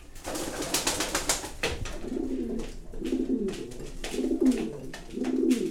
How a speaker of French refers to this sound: Ce sont des pigeons généralement un peu batailleurs, mais bon, ils se sont bien adaptés à notre pigeonnier.